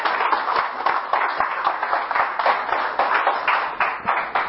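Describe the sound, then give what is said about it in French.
An audience applauds steadily for several seconds, a dense, even patter of many hands clapping at once with no voices standing out. “On peut les applaudir encore une fois.”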